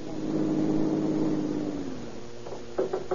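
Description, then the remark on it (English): A car engine runs with a steady, fairly loud hum, then its pitch drops as it winds down and cuts out as the car stops at the bottom of a steep hill, followed by a few short knocks or clunks. “At the bottom of the hill, he stops his car and waits for Captain Chitwood.”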